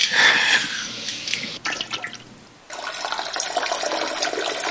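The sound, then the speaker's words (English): A peeing sound effect from a free toilet simulator game: a hissing stream of liquid splashing into water, breaking off briefly, then resuming as a steady, fairly loud trickle with no voices. “was you peeing and farting? Gross. No, I was using the toilet simulator.”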